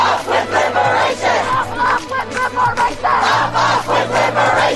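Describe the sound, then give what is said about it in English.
A large pro-Palestinian protest crowd on a U.S. college campus chants in unison, voices rising and falling in steady rhythmic bursts, loud and continuous, with a low hum running underneath. “police and students clash over pro-Palestinian protests on U.S. college campuses.”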